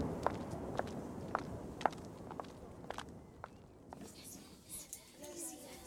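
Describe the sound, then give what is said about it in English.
Light footsteps of a girl walking to school at a steady, even pace, holding a brown paper bag, several clear steps that thin out after a few seconds, with soft background noise and faint higher sounds near the end. “Ling Li is walking to school.”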